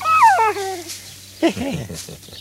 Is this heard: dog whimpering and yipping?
yes